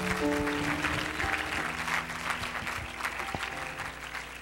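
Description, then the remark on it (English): An audience claps their hands unto God in a sustained, dense burst of applause, steady and fairly loud throughout, with faint low tones lingering underneath. “Let's clap our hands unto God once more.”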